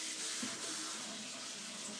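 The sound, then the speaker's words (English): Tap water runs steadily into a sink, a continuous hiss with a faint clatter as a wooden spoon just used for cooking is rinsed under the stream so it doesn't stick. “And cleaning it up with some water.”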